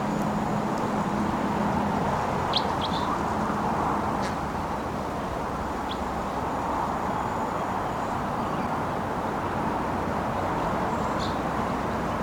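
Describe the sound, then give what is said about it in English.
A bird perched in a tree right next to a truck gives a few short, high chirps at irregular intervals, faint against a steady, loud rumble of road or engine noise that fills the whole recording. “And it's just out of range for shooting, but it's vocalizing here.”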